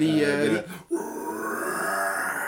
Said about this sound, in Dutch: En ik vind, maar daar hadden we het dan ook, maar die heb ik al die sampletjes lopen zoeken. Willem Scream.